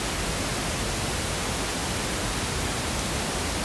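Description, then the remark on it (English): A steady, even hiss of pink noise runs unbroken for a few seconds, soft and full-bodied with a deeper, less harsh tone than white noise, and no voices or other sounds. “before I get into the one I prefer, this is pink noise.”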